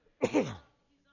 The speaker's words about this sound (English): Sorry, I was trying to cough away from the microphone.